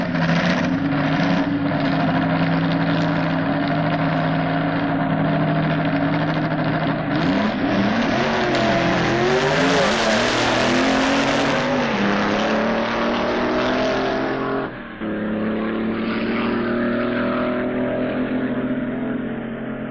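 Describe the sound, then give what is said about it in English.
Drag racing cars roar, engines revving hard and accelerating with rising and falling pitch, a loud, continuous blast of engine noise that briefly drops before surging again: a 7-litre Chevrolet-powered Plymouth Coupe qualifying for a spot in the eliminations, running alongside a supercharged Jaguar-powered Model T. “this 7-litre Chevrolet-powered Plymouth Coupe is qualifying for a spot in the eliminations”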